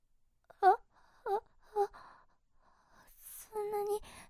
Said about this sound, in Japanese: この感情、何というのでしょう。苦しいという気持ち、和らいだのに、なんで私は泣いているのでしょう。